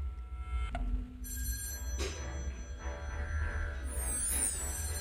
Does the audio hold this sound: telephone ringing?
yes